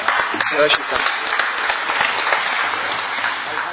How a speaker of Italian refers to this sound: se possibile facciamo anche un applauso a lei e a tutti i volontari.